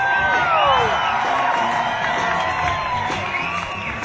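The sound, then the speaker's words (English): A loud crowd cheers and claps continuously for a performer, giving her one more round of applause, with rising whoops and shouts layered over dense applause that holds steady for several seconds. “Give her one more round of applause.”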